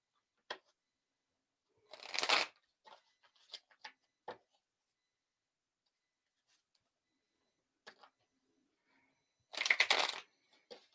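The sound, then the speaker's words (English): A deck of tarot cards is shuffled for a reading in two longer riffling bursts, with scattered sharp taps and flicks between them and no talking. “All right, so I'm shuffling for Lillian.”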